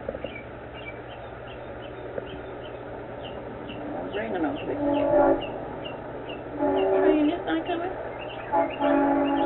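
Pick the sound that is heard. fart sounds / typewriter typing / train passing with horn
train passing with horn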